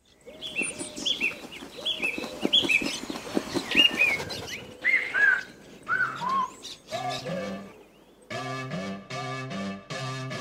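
A pop song intro opens with busy bird chirps and tweets layered over a soft pulsing backing, then steady synth chords take over for the last couple of seconds, fairly loud and clear.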